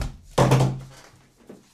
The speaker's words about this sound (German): Ich mach mal die Tür auf vom Balkon. Ist ziemlich kalt.